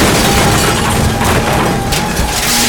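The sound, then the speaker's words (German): A crane's heavy iron claw crashes onto the roof of Skinny Norris's car, shattering windows and piercing the sheet metal: a loud, dense, sustained roar of clanging and grinding metal with a faint ringing tone underneath, no voices. “Im selben Moment krachte diese mit ohrenbetäubendem Lärm auf das Autodach von Skinny Norris Wagen.”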